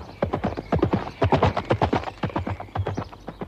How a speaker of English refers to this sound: Dennis Moore, Dennis Moore, galloping through the sward. Dennis Moore, and his horse Concord.